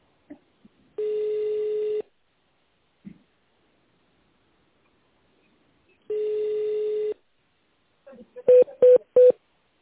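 Telephone line of the Korustekh group of companies, where callers may dial an extension in tone mode: two long, steady telephone tones sound a few seconds apart, followed by three quick, louder touch-tone dialing beeps in a rapid row at the end.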